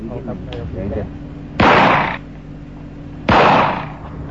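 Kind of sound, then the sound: impact, gunshots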